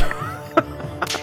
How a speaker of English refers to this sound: Oh, I heard Christ. That head slap. That was a clap. Oh, yep, Christ. That was a massive head slap there. No, it was a clap.